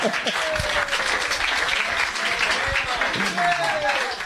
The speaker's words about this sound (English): And the crowd goes wild.